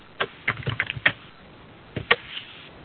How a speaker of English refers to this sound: If someone is typing, could we ask for mute buttons?